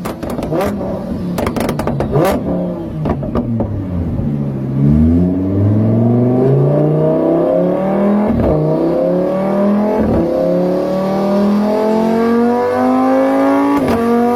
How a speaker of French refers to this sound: Lorsque j'admire ma magnifique ville sur mon balcon royal, je suis parasité par le bruit infernal des voitures. Voyez les gros V8 qui font du bruit ?